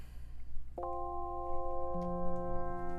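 Music from the Sega Genesis game Echo the Dolphin, played on an emulator: a bright synthesized chord swells in and holds steady, then a low note joins about a second later, over faint background hiss.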